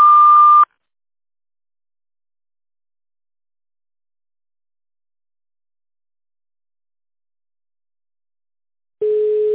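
A telephone beep tone on a sanatorium's automated answering line sounds briefly at the start, then a long stretch of silence, and a second, lower-pitched steady beep, the long signal before switching the phone to tone dialing, begins right at the end. No voices.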